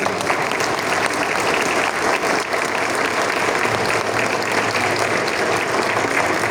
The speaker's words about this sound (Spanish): Nuevamente un aplauso para ustedes.